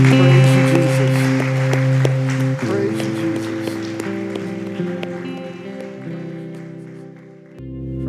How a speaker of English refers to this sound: And God, we just want to end by applauding you and worshiping you. So let's just applaud him together.